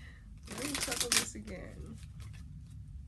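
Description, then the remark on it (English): A deck of cards, unused for about a year, is riffle-shuffled again in one quick, crisp burst of rapid fluttering snaps lasting about a second, with a faint murmur of voices underneath, then the sound settles into low background noise. “Okay, let me shuffle this again.”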